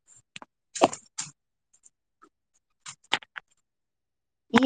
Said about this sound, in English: Yeah, you're chewing on the phone. Really? Really?